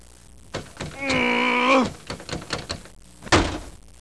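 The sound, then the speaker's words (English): A locked car door is forced open with a sustained metallic groaning creak, several rattling knocks and thuds, then a loud hard bang near the end, fairly loud. “So he decided to try to force the door open.”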